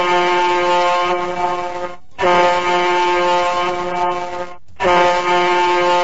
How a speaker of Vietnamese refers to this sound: Vừa lúc đó, ba hồi còi tàu vang lên.